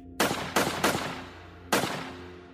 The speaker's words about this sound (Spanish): Entre las 3:23 y las 3:27 de la mañana, unos trabajadores cerca del parque industrial reportaron que oyeron disparos.